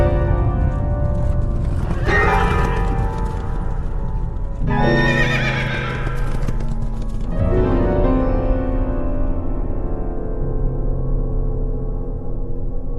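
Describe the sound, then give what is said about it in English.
Racehorses galloping and scattering during a race, hooves drumming in a steady rush, with three loud, shrill whinnies rising over the pounding. No one speaks. “The horses went scattering.”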